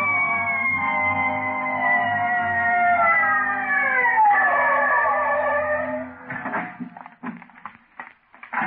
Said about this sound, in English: Red light siren. Let's go.